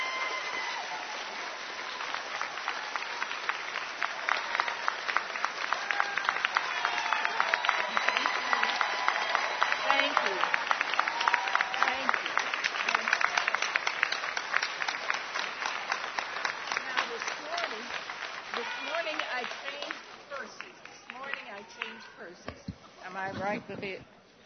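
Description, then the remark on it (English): Sustained applause from a sizable audience for an audiobook narrator's encore performance, dense rapid clapping that swells and holds for much of the time before thinning out near the end, with a few voices mixed in. “Let's give her a huge round of applause.”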